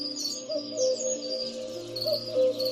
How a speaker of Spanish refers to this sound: Y ahí se juntan las voces de los últimos del día, los cucos, los petirrojos, con los primeros de la noche. No es ni una cosa ni la otra y cantan todos juntos, ¿no? Todavía hay saltamontes, está cantando un mirlo, llama un cuco.